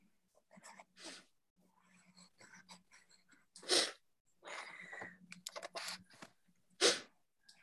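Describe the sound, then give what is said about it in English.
Scratchy, irregular strokes of a pencil rubbing across paper while drawing, with a few louder, harsher scrapes among softer marks and a faint low hum underneath. “If you go really press hard, if it's a pencil, what happens?”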